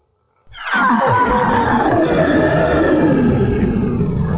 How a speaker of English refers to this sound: I couldn't tell if the sound was human or animal. It was a growling sound that left me terrified.